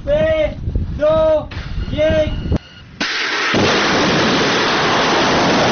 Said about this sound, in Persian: مرحله نهایی رزمایش موشکی سپاه پاسداران روز سه‌شنبه برگزار شد. عملیات شلیک موشک عماد با رمز مقدس یا ابوالفضل العباس.